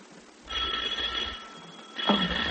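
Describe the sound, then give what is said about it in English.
A doorbell rings with a shrill, buzzing electric tone, one ring lasting about a second, then a second ring starting after a brief pause. No one speaks. “why did you ring the bell?”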